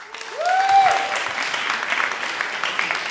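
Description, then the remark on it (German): An audience claps steadily, a dense wash of applause that swells quickly and holds at a fairly even level, with a brief rising whistle-like tone at the start. “Euer Applaus!”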